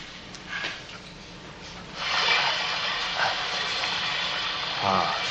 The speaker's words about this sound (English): There's nothing like steam to perk up a fern.